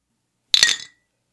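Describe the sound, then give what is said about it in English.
Glasses of light beer clink together once in a toast, a bright ring that fades quickly after a short, sharp strike, with no talking. “All right, so let's put them up. Cheers.”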